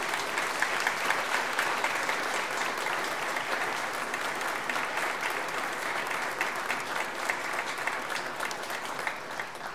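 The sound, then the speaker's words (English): Sustained applause from a large crowd for high school graduates, a steady dense wash of clapping that holds at a fairly even level for the full stretch without voices breaking through. “Let's have a round of applause for our high school graduates.”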